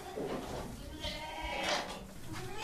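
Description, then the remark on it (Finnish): A goat bleats several times in wavering, nasal cries in a barn pen, with some rustling and shuffling noise in the background. “Tää vuohi juoksee itse tonne ylös.”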